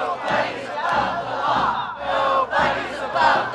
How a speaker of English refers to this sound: Hundreds of protesters gathered outside the Eugene Federal Courthouse last night to decry President Trump's firing of now former Attorney General Jeff Sessions.